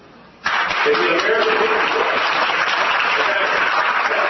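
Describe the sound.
After a brief quiet moment, a crowd at a Faith and Freedom Coalition event bursts into loud, dense applause about shutting down the government, holding steady for about four seconds, with crowd voices blended into the clapping.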